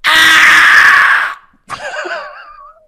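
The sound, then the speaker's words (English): A person voices a loud, shrill, sustained screech imitating a bird call into a microphone, then a brief pause and a second warbling, fluttering cry that trails off, with no speech. “Let me warm up the vocals here to see if I can do a good bird sound, see if it picks up on my microphone.”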